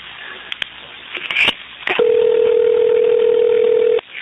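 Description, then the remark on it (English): Over a muffled phone line, a few clicks and faint rustles give way to a single steady ringback tone lasting about two seconds before it cuts off, as a sheriff's department detective places an outgoing call returning a phone call. “Returning her phone call.”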